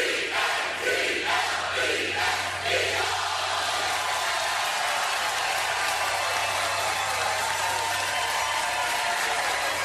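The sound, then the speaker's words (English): A large stadium crowd roars steadily, rhythmic bursts of shouting 'Eagles' in the first few seconds settling into a loud, sustained wash of cheering and whooping with a low hum underneath. “A little bit more robustly on Eagles. And then cheer after Applaud, Eagles.”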